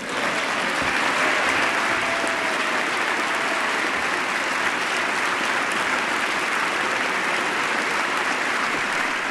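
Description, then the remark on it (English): Loud, sustained applause as members of Congress from both sides of the aisle give the President a standing ovation, dense and steady clapping with no letup for the full length, no one speaking over it. “Now, once again, the President is getting a standing ovation, sustained applause, for members of Congress from both sides of the aisle.”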